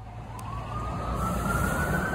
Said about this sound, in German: Ja, egal wo du bist in New York, du hast eigentlich fast immer so eine Art Grundrauschen an Verkehrsgeräuschen und irgendwo in der Ferne hörst du auch fast immer genau diese Sirenen. Die gehören zu der FDNY Ambulance.